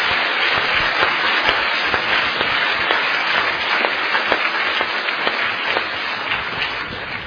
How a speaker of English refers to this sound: Please give them a round of applause for thanks.